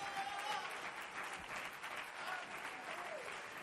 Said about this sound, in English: Oh, clap your hands unto him once more.